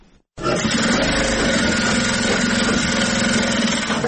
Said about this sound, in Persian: ماشین های خیاطی برقی در یک سالون کلان بر میزهای مخصوص گذاشته شده و دختران توسط آن لباس می دیزند.